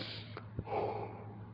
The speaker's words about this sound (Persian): خدا گرم اینجا، من خمیازه میکشم ببخشید، خوابم نمیاد و مدیونی اگر فکر کنید خوابم میاد، خستم، باور کنید ابدا.